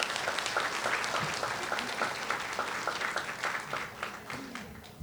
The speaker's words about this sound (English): Round of applause for our guests and panelists.